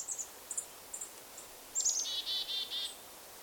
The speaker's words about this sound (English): In July, you might have heard this dawn song, many birds singing at first light.